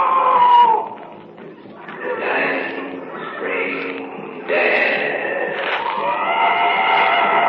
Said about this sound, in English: What's going on over there? Just a wounded animal screaming out.